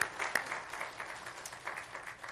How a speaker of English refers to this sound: And so we praise the Lord for that. Let's give a hand clap of praise for that.